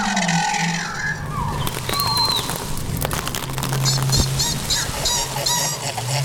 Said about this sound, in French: Allez, un dernier. Avec des fruits, des branches, des feuilles, Diego reconstitue les cris d'animaux dans la jungle.